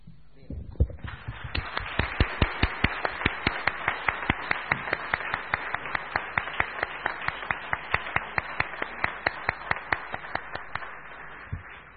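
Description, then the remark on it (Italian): An audience applauds steadily for about twelve seconds at the close of an evening conversation event, a dense wash of many hands with a regular, rhythmic clap pulse running through it, starting abruptly and holding at an even level. “Bene, credo che questo franco applauso sia il migliore suggello di questa serata, di questa bella conversazione, delle risposte anche molto equilibrate, dense, che abbiamo ricevuto.”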